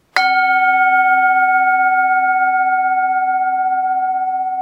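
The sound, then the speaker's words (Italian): A gong is struck once with a sharp hit, then rings on loudly as a steady shimmering metallic tone with several layered pitches, fading only slightly over a few seconds. No voices. “Ci avete preso gusto a sbattermi il gong in testa? Comunque, ormai ha suonato”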